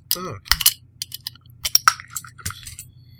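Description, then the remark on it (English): A bottle of Big Sky beer made with pumpkin, cocoa nibs, cloves, cinnamon and nutmeg is opened: a burst of sharp clicks and scrapes, then a bright metallic clink with a brief ringing tone and a few softer taps, over a low steady hum. “So I think it's time for me to bust this open and check it out.”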